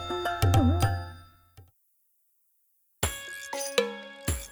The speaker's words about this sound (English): Ring, ring, it's the phone.